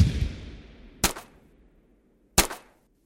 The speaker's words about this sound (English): We heard more cannon fire and gunshots.